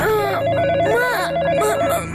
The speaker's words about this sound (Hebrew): שלוש בלילה? מי מצלצל בשעה כל כך מאוחרת? הוא ניגש אל מכשיר הטלפון והרים בחשש את השפופרת.